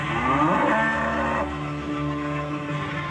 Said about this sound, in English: Do you hear a cow?